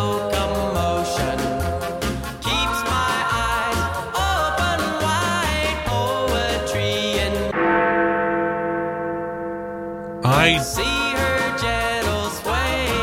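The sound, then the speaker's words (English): Loud chimes of Big Ben, the clock-tower bell, ring out in a slow melodic sequence, dense with ringing overtones, then one long sustained toll decays before another strike cuts in. “I have replaced a word or a phrase with the sound of Biggius Benius.”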